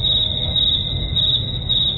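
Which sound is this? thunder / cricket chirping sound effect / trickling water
cricket chirping sound effect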